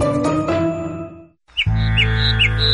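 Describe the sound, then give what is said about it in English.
Birds chirp and squawk in a dense, continuous chorus, with a brief silent gap before bright repeated chirps return over a steady low hum; no one speaks. “Springtime in Calgary is when we start to see birds, flowers, and potholes.”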